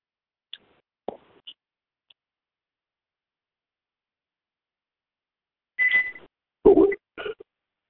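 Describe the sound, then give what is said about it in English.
A smoke detector chirping its low-battery warning: a few faint, short high-pitched chirps early on, then three louder, harsher beeps close together near the end, with no talking. “Oh, that beep is I need to change the battery in the smoke detector.”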